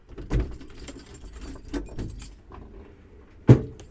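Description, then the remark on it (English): Windows and doors being opened after being shut for recording: metallic rattles and clicks of handles and latches, ending in one sharp loud clunk, over a low rumble of outdoor traffic noise drifting in from a spot right next to a scrapyard and two main lines. No one speaks. “I'm, as usual, just going to open the windows and doors, because I've been recording with the windows and doors shut.”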